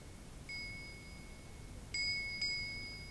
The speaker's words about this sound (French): De chaque côté, les arbres d'émeraude et de rubis teintent.